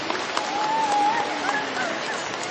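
An audience applauds to welcome a guest at a gathering with communal rosary prayer, a dense, even patter of many hands at moderate volume, with a faint voice or tone drifting underneath.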